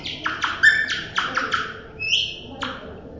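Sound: nightingale song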